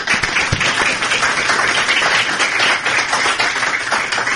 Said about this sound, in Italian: vi chiedo per loro un applauso.